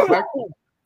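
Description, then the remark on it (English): A single short sneeze: a sharp, breathy burst that trails off into a brief voiced tail, all over in about half a second, with no talking around it. “Bless you.”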